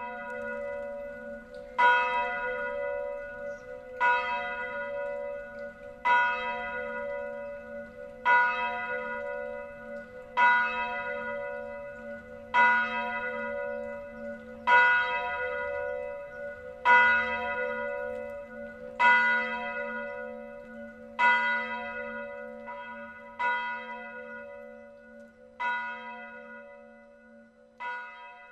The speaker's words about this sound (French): Et ensuite, et celle-là je l'attends avec... délice, c'est les cloches à la volée. C'est vraiment quelque chose qui me fait du bien pour me lever, voilà, qui me donne du plaisir à entendre.